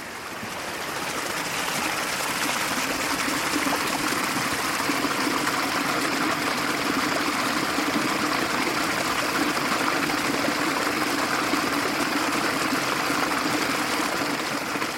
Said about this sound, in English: about the amount of time that burn has been flowing, which is at least hundreds of years. I don't know if it's been diverted by farmers over time, but you know, in the Flover River or the Flover Burn, that reminds you of the flow of time, doesn't it?